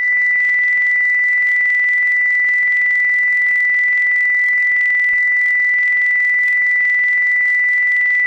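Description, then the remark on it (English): A steady, loud broadcast cue tone on StarGuide Channel DGNNet, set before Online Tonight with David Lawrence and ending at 06:20, holds one unchanging pitch for the whole stretch, a pure electronic whine with no breaks and no voices. “Tone ends at 0620.”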